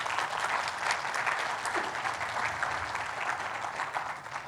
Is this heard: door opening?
no